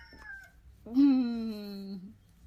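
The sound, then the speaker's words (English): A rooster crows once, loud, a sustained harmonic call lasting about a second that slowly drops in pitch, following the faint tail of an earlier call. “That rooster is really testing my patience.”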